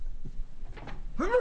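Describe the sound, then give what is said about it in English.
A single sharp sneeze bursts out near the end, preceded by a brief breathy intake, fairly loud against a quiet hum. “Excuse me. Bless you.”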